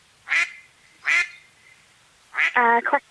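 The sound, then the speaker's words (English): A duck quacks several times, played as a clip in a guess-the-animal quiz: two separate harsh quacks, a short pause, then a rapid burst of nasal calls at the end. “Quack a duck. Quack a duck is correct.”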